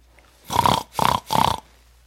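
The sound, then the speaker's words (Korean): A human voice imitates a pig for a quiz in which contestants guess who is making the sound, giving three gruff, nasal oinks in quick succession, each about a quarter second long and fairly loud, with no other talking. “돼지 소리를 내는 사람을 맞춰 주세요.”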